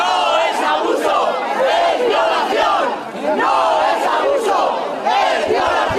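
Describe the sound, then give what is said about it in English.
Hundreds of protesters in the streets of Spanish cities such as Madrid, Barcelona and Pamplona chant together in unison against a court verdict, many voices loudly and steadily shouting the repeated phrase "That's not abuse, that's rape," with a brief dip in volume midway before the chanting surges again. “Hundreds chanted in unison, "That's not abuse, that's rape."”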